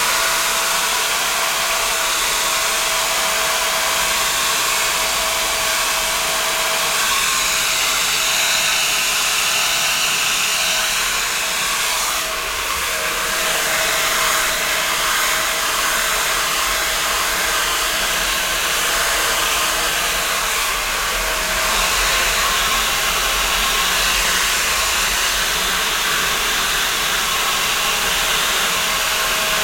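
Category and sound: household object, hair dryer blowing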